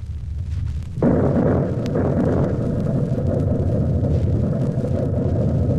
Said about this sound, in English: The sound of the explosion finally caught up with it. Out of the great silence came a mighty thunder. It was the blast of thousands of blockbusters going off simultaneously at one pinpoint.